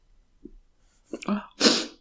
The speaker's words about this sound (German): Ja, Entschuldigung, ich war gerade so davon abgelenkt, dass ich meinen Niesen unterdrücken wollte, was ja grandios funktioniert hat, wie wir gehört haben.